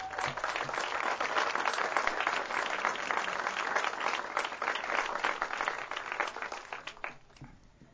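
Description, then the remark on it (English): Sustained applause from an audience at a concert in the park, for the concert's sponsors, a dense crackle of many hands clapping at steady loudness for several seconds before tapering off slightly at the end. “How about a nice round of applause for all those sponsors?”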